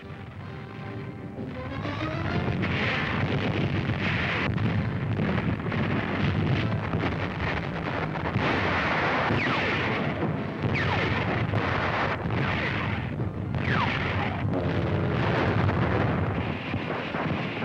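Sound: artillery fire and explosions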